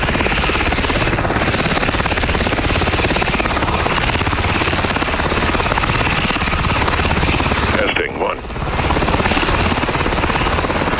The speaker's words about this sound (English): I'm gonna go to helicopter.